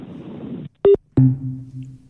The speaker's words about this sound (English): Putting the phone down, that the gunk sound. Hurtful.